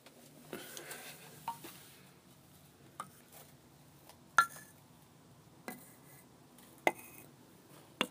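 Scattered, hesitant mallet taps on a xylophone, about seven quiet strikes at irregular intervals, each a short bright clink with a brief ringing tone, separated by pauses of near silence.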